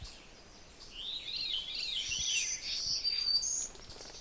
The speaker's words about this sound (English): You can certainly hear other birds around me. Most of the peculiar notes are the veeries. There was an oven bird a little bit far away. My yard is active simply because it's kind of like a hole in the woods, and there's some berry bushes around,